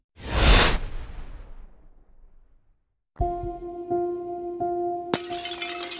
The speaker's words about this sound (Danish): Det smadrede glas fra ruden falder til gulvet med et klir.